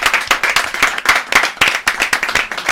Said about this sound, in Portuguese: E já agora, se me permitisse, eu gostaria muito de, se me permitir, claro, gostaria muito de pedir às pessoas que estão aqui presentes e a todos nós um grande aplauso para estes grandes músicos que aqui estão. Muito bem, muito bem.